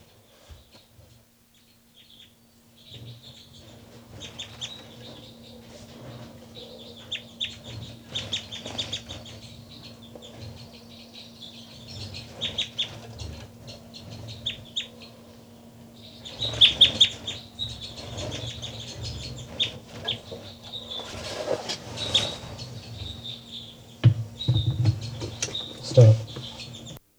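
Soft, chirpy bird calls from recorded birds numbered 273 and 274, 273 first, then 274, come in scattered bursts over a low steady hum, with quiet clucking and rustling, growing busier and a little louder toward the end.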